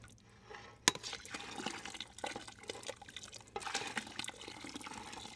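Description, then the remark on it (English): Thick honey pouring into hot water, a steady soft liquid trickle with faint drips and gurgles, opening with a brief sharp clink, and no talking. “That is the honey going into the hot water.”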